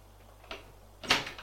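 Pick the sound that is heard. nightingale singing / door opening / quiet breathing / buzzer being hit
door opening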